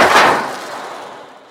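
A loud, hissing splash made by shaking an ocean drum filled with little BBs, standing in for a character jumping into a river in a show: one sharp rushing burst that quickly swells and then fades away over about a second and a half, with no voices.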